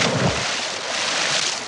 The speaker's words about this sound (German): Doch der Wolf kam hinterher. Er sprang ins Wasser,